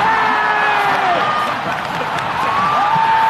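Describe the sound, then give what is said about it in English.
A crowd of almost 15,000 at London's O2 Arena roars and cheers on players at the League of Legends final, a steady, loud wall of noise, with shrill whistles and whoops rising and sliding above the din throughout. “Yes, that's almost 15,000 people cheering on the best players in the world at League of Legends.”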